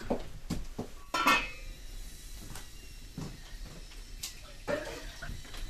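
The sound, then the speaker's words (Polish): A metal cooking pot clinks and knocks a few times, with one brighter ringing clatter early on, then quieter handling sounds and a faint wash as water is poured into the pot, which had boiled down to half. “Zaleję tej wody, mamo, bo tu się wygotuje w tym garnku.”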